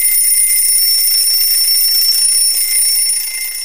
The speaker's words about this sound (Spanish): Ocho de la mañana. Suena el despertador.